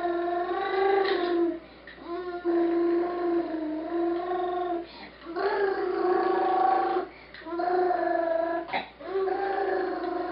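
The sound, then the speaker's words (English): An American toddler's voice imitates a car engine with long, buzzing, revving hums in about four sustained bursts separated by quick breaths, clear with nothing else in the background. “gives us the ultimate and familiar automotive sound, courtesy of the American toddler.”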